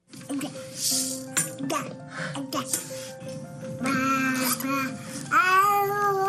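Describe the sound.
An infant babbles continuously in a clear voice, stringing together wordless syllables with rising and falling squeals, coos and short breathy sounds, ending in a couple of higher, drawn-out vocalizations.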